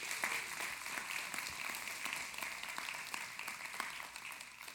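An audience at Bethel Community Church applauds steadily for several seconds, a dense wash of many hands clapping at once, fairly loud and continuous with no voices standing out.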